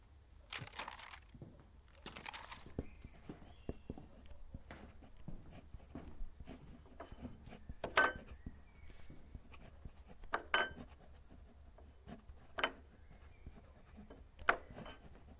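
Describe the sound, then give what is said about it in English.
Quiet scratching of writing on paper with a marking stone, irregular strokes and scrapes with brief louder scrapes now and then, no voices. “Do I have paper and a mark rock? I do.”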